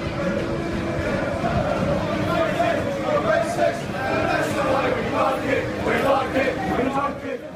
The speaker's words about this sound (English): The footage shows the supporters refusing to let this man on the train, and at one point he's physically pushed away from the carriage. And you can hear the fans chanting, "We're racist, we're racist, that's the way we like it."